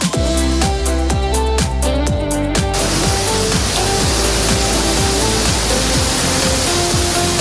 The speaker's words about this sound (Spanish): Pues esta es la banda sonora que estamos teniendo hoy en nuestro país y que vamos a tener también en los próximos días, el sonido de la lluvia. La borrasca Leonardo ya descarga con fuerza sobre nuestra península.